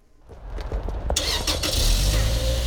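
A pickup truck engine starts up on a blustery, cold February day in Lansing, before driving down St. Joseph Street: a few clicks and a burst of noise giving way to a steady, low, rumbling idle that grows slightly louder. No voices.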